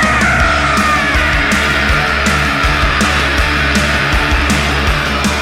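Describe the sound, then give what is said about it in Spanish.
A voice lets out a long, sustained, terrified-sounding scream, loud, holding steadily for several seconds without any speech, as if imitating someone shrieking in fear. “Ahí volvió el grito aterrador.”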